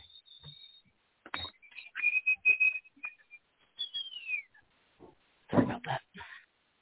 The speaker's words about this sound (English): Yes, I have a whistling tea kettle because I'm a nerd.